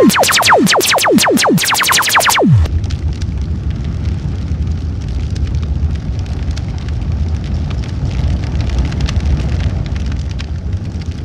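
A few quick falling whistle-like tones open, then a campfire being lit for a night of scary stories crackles steadily, with dense pops and snaps from burning firewood over a constant roaring hiss.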